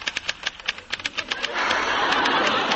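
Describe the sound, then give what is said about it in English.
Quick, uneven clacks of typewriter keys for over a second, then a steady mechanical whirring rush that holds to the end. No voices. “Please, please don't hide behind the typewriter.”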